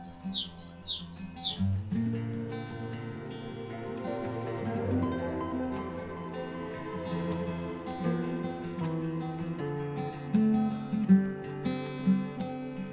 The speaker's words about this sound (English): Outside, a bird is singing 2 repeating notes, like a siren.